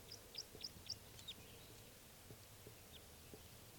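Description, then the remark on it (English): A male bird's flight song: four quick, high, thin chirps in the first second or so, then only faint traces over a quiet, steady low hum. “Oh, and here comes another male in flight song.”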